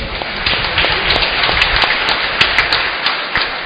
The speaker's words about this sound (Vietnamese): Xin cảm ơn ban điều hành các giáo họ, ban thường vụ một tràng vỗ tay thật lớn.